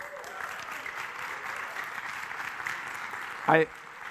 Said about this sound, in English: I love, by the way, I don't know, can we just give a round of applause to the people who made this place look awesome?